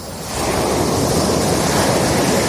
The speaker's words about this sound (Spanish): El mar, pasear por la playa, estar tumbado en una tumbona ahí, bueno, pues mientras que estás escuchando romper las olas.